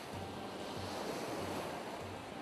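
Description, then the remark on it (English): Steady wash of sea waves on a beach, a broad continuous hiss of surf with gentle swelling, plus a faint low rumble of wind underneath. No voices. “There's definitely something there that mirrors the sounds of the sea, you know, the flow, the ebb and that.”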